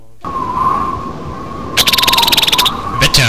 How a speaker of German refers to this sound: Das ist auch ein Vogel.